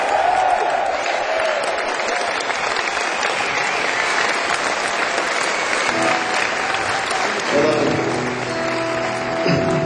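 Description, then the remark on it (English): A crowd applauds steadily with dense, sustained clapping for several seconds, welcoming a guitarist; near the end a guitar begins playing beneath the applause. “We're a big round of special round of applause.”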